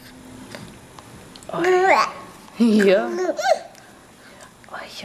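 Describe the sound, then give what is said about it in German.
A stressed baby, tired after a long day, fusses and babbles in short, wavering vocal bursts, a couple of louder strained outbursts separated by quieter pauses, with faint background noise. “Und dann gucken wir uns aus dem Alter auch nochmal ein Kind an, was so ein bisschen Stress hat, weil der Tag schon so lang war.”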